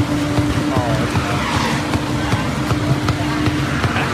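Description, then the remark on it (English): A loud, continuous grinding and whining from a failing car wheel that is getting worse, with a steady tonal hum running underneath and scraping tire noise throughout, while people talk over it. “Oh, the wheel's getting worse. The wheel's getting worse. That's loud.”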